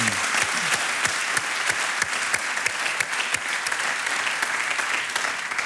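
A crowd applauds steadily for several seconds, dense overlapping claps forming a loud, even wash of sound with no voices standing out.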